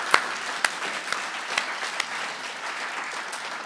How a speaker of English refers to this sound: Let's give the musicians, the readers, and everyone else a big round of applause.